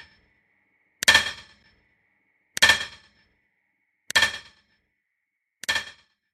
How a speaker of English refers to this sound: They say if you go to that old Big Bend tunnel today and you listen real close, you can still hear the echoes of John Henry's great pounding hammer, fighting day in and day out against the cold stone heart of the mountain.